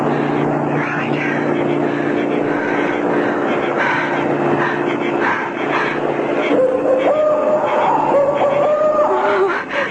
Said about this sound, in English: He's gone. I should have listened. Oh, that's a car coming. I'll get a lift.